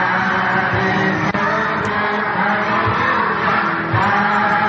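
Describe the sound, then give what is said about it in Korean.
A dense, steady wash of many children's voices shouting and calling out together in a video, loud and continuous throughout, with no single voice standing clearly apart from the crowd; the children were attending for the first time that day. “아이들 소리 잘 들어보세요.”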